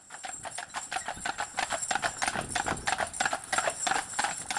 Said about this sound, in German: Viele Sachen wurden mit dem Pferdewagen in die Stadt gebracht. Das ging aber ganz schön langsam, so ein Pferdewagen.